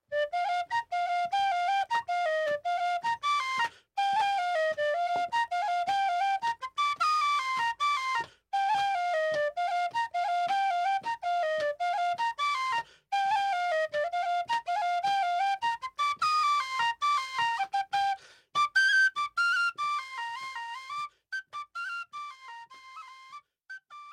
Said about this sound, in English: Here's a little bit more tin whistle.